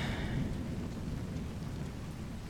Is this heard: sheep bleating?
no